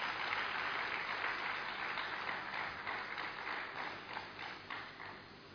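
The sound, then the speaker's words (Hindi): An audience breaks into sustained applause for themselves, a dense wash of many hands clapping at once, steady and fairly loud before tapering slightly toward the end, with no one speaking. “अपने लिए तो ताली बजाइए।”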